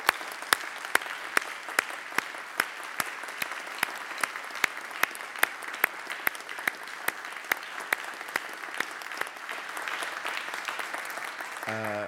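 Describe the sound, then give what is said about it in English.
A festival crowd applauds the Perimeter Institute's staff steadily for about twelve seconds, a dense wash of clapping with a few sharp, evenly spaced claps standing out, before a voice begins as it fades. “I think they deserve a special round of applause.”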